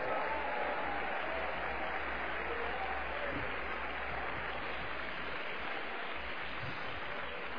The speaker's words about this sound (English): And God help us on this Thursday night to stand on God's promise and see the manifestation of God now. Clap your hands and shout unto God with a voice.